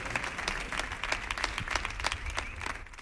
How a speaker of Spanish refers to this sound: Fuerte el aplauso para estos señores que nos han deleitado con este soniquetazo en el show del Comandante Lara.